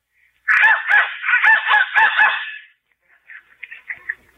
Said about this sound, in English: Must be broken. Maybe you have to blow it harder. Who's blowing that darn whistle in here?